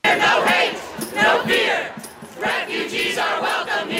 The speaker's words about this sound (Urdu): امریکہ کے صدر Donald Trump کے صدارتی حکم نامے کے خلاف بڑھتا ہوا احتجاج وائٹ ہاؤس کے سامنے آن پہنچا. مختلف نعرے اور مختلف آوازیں ایک ہی پیغام کی شکل اختیار کر گئے.